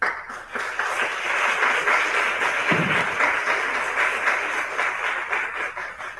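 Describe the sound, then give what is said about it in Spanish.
Steady audience applause, a dense wash of many hands clapping at once that holds at an even, fairly loud level for the whole stretch, with no voices over it, given for two trophy winners, including the Spanish film En el aire, at the 2018 Unicaja audiovisual awards. “A ellos dos, a estos dos trofeos, les queremos desde aquí, desde la distancia, darles un afectuoso aplauso.”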